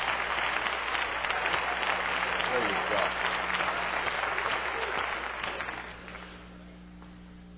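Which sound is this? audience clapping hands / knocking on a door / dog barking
audience clapping hands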